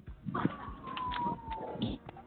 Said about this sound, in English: Something going on right now. Somebody out here, ambulance right now.